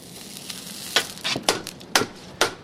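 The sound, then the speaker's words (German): A farrier lays a glowing hot iron horseshoe onto the hoof of a horse named Paris, making it smoke: a steady hiss punctuated by several sharp, crackling bursts of spitting sizzle, with no voices present. “legt das glühige Eisen aufs Huf. Es rauchnet und es stinkt, es schmürzelt.”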